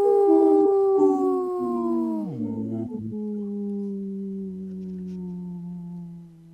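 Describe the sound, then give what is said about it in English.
A person calling in from Madison to the Native Roots Radio show imitates a wolf, holding one long, loud howl for several seconds, its pitch sliding steadily downward with a brief wavering dip partway through. “just doing a really long howl”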